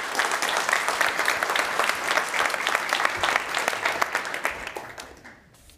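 An audience applauds steadily, many hands clapping in a dense, even patter that holds for several seconds before thinning out and fading at the end.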